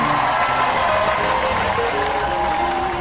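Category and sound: crowd, studio crowd cheering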